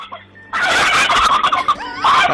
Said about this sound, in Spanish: Sigue, manténme ese pavo que está perdido.